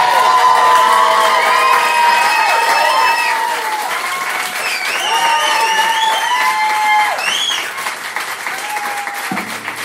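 Steady audience applause with loud cheering, whoops and high-pitched shouts rising over the clapping, sustained for about ten seconds before tapering slightly at the end, as a comedian is introduced at a comedy show.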